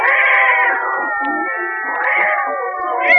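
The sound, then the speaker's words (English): A Maltese cat caterwauls in loud, drawn-out yowls that waver up and down in pitch, swelling and fading over a few seconds, with no talking. “Why, that's Tiny, my beautiful little Maltese cat.”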